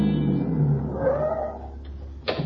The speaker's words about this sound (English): It's only a few minutes later that a car drives up.